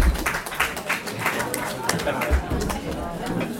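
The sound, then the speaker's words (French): Audience applause at a tribunal hearing after a speech, despite an announcement not to applaud: a dense, steady patter of many hands clapping that fills the whole stretch at an even loudness, with a murmur of crowd voices mixed underneath. “Je rappelle qu'il avait été annoncé qu'on ne devait okay. pas applaudir.”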